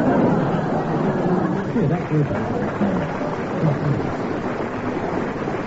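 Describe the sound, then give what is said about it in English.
An audience applauds to side with Derek Nemo in a dispute with Clement Freud, in a dense, steady roar of clapping that holds at an even loudness for several seconds, with faint voices murmuring underneath. “They've already decided with their applause.”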